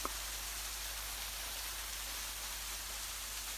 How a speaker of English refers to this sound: Feel the freshness, feel the pressure, hear the sound of the water crashing on you, on the rocks around.